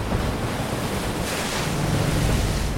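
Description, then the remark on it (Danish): Rough sea waves crash and churn under a steady roar of wind in a storm at sea near the coast of England, a dense, continuous wash of noise with a gust swelling midway, loud, no voices. “Sikke et stormvejr.”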